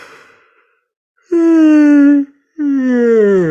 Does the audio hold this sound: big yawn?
yes